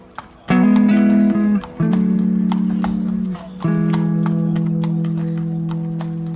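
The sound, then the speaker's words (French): Horse hooves clip-clop in a steady, moderately loud rhythm over a hard surface as a horse and rider cross a city, accompanied by a sustained droning musical tone that holds throughout. “Cette traversée à cheval, je pense qu'elle est, elle est magique.”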